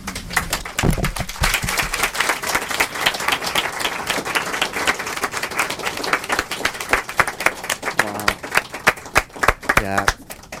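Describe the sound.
An audience applauds steadily, a dense, continuous patter of many hands clapping that holds strong for about ten seconds, with a few voices and brief harmonic vocal sounds surfacing near the end.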